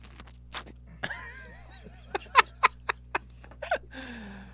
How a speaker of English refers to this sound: I want you to take one bite of one pickle into the mic